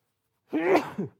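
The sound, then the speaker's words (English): A single loud sneeze bursts out after a moment of silence, a sharp explosive blast trailing into a short breathy tail. “And I'm going to sneeze.”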